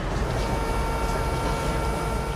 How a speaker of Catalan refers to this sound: Ens trobem al passeig de Verdum i es pot escoltar el soroll del trànsit de vehicles i veure la gent atrafegada en les seves gestions diàries.